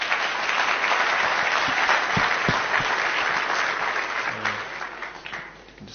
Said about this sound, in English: Round of applause for SunExchange.